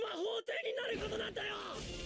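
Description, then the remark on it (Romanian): An animated character in an anime film trailer lets out a long, strained yell as he goes Super Saiyan, loud, holding the shout for about two seconds with a brief break near the start. “Urlă prea mult ăsta.”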